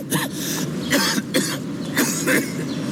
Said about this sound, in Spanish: Por más historias sin tos, Buxol Adulto, indicado para el alivio de la tos con flema.